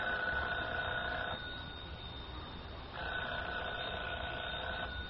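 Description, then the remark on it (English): A telephone rings twice in a steady ring-pause-ring cadence, each burst lasting over a second, fairly loud over a faint background hiss with no one speaking. “Should I answer it? Answer it. Hold the receiver up, that's right.”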